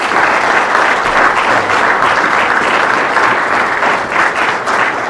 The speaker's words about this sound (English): I want to thank the panel for being here today to give you their recap of the session and their priorities for next year. So if we could give them one more round of applause.